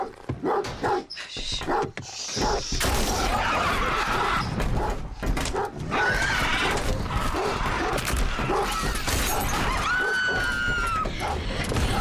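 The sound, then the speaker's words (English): Winged, bat-like, prehistoric-looking creatures called vesps swarm a van, pecking, clawing and pounding at it in a loud, relentless barrage, shrill shrieks and yelping cries rising over the constant scraping and banging. “Vesps attack the van.”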